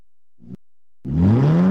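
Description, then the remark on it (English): A car engine gives a short low cough, falls silent for a moment, then roars into a loud, close rev that climbs steadily in pitch. No voices are heard. “Rev up your support for KBOO Community Radio. Have an old car taking up space?”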